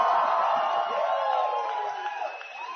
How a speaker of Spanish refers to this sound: ¿Por qué no gritan tan duro cuando hay que pagar la colegiatura?